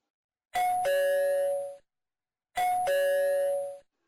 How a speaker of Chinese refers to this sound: 傍晚时分，门铃声响起。